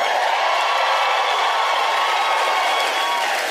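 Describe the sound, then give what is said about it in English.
A stand-up comedy audience cheers and applauds in a steady, dense roar of many voices and clapping hands, holding at an even loudness for a few seconds with no single voice standing out. “Oh, thank you for cheering for that part.”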